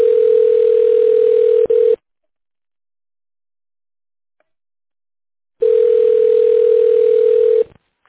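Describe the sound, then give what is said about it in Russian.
A steady, mid-pitched telephone ringback tone sounds twice while a caller waits on hold after calling the company Biosfera, each ring lasting about two seconds, separated by a long stretch of silence, with no voices present. “Пожалуйста, оставайтесь на линии и дождитесь ответа.”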